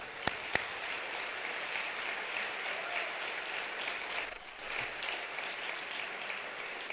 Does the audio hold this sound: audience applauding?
yes